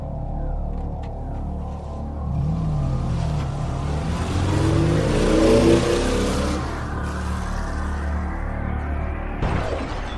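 A car engine revs up with a rising, steady roar as a woman who has left a house drives off in her car, and the sound holds as it drives away. No one speaks.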